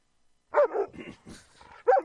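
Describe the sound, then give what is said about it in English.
An Alexa smart speaker plays dog barking on request: a sharp bark, then a run of softer growling yips before one more loud bark at the end, sounding like recorded barks played back, with no talking. “Alexa, bark like a dog.”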